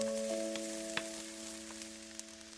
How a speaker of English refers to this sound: And then when you fry it, you can hear the sizzle and you can almost smell the sizzle as the oil mixes with the onion.